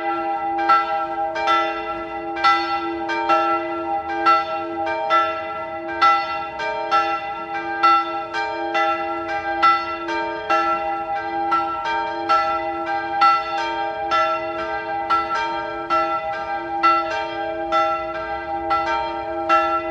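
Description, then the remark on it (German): The bells of the Bürgerspitalkirche in Salzburg's old town peal steadily at noon, their strikes overlapping in a continuous rhythmic ringing with long sustained tones that hang in the air throughout, with no voices. “Es ist 12 Uhr. Sie hören die Glocken der Bürgerspitalkirche in der Stadt Salzburg.”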